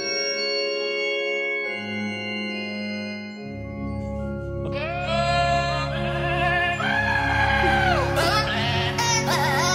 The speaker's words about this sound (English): Man, when you have a goat singing Oh Holy Night, the prettiest of all the carols, I think it's going to be a great Christmas for you and all your friends in Sweden.